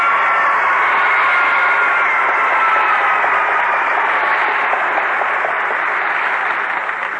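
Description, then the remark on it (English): The young audience of the show Let's Pretend bursts into loud, sustained applause mixed with excited cheering, a dense wash of clapping that holds steady for several seconds and tapers slightly at the end. “Well, thank you for that rip, snort, and round of applause, pretenders.”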